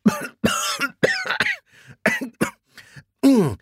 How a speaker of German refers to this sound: Plötzlich verschluckt er sich und hustet.